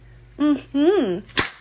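slap

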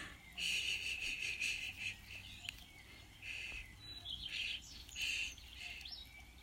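birds chirping outdoors

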